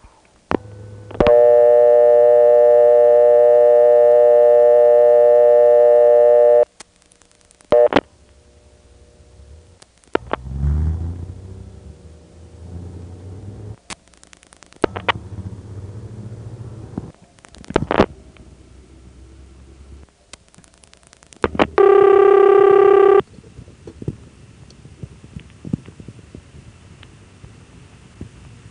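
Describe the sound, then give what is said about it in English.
A telephone exchange in Kenley dialing vacant level 284: a long, steady buzzing tone, then scattered mechanical clicks and clatters of switching equipment, ending with a brief, loud tone burst. No one speaks. “Here's a vacant level in Kenley, 284.”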